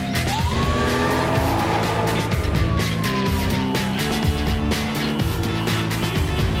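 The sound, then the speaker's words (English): A taxi whips through a hard right turn onto another street, its tires letting out a long, wavering squeal over a loud, steady engine rumble. No one speaks. “makes a hard right onto another street and finds it blocked with traffic.”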